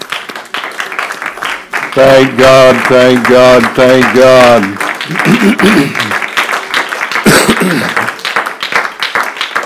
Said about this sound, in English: Can we give the Lord a hand clap of praise tonight?